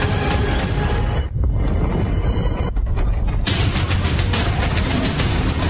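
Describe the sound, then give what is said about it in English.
A stampede of running animals from a new movie: a dense, loud, continuous rumble of many pounding feet, briefly thinning before a rapid, even patter of steps fills the final seconds. No voices. “And if you heard the little steps at the end, that was a stampede.”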